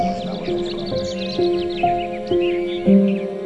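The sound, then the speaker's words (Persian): A busy chorus of playful sparrows perched on tree branches chirps and twitters nonstop, many quick overlapping calls, set against soft sustained musical tones that shift every half second or so. “گنجشکای بازیگوش رو صدا میزنم بیان بشینن رو شاخه هام، سرشماریشون میکنم و میشم رهبر سمفونی گنجشکا.”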